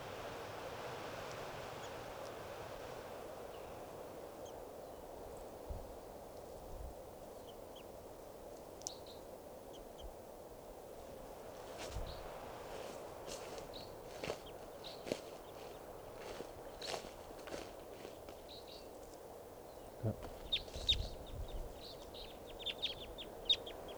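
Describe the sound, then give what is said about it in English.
Wild bird calls, good numbers of birds that all sound like type 2 calls, sound faintly and irregularly, brief high notes and chirps scattered over a steady background hiss, with occasional soft knocks and no talking. “as well, bird.”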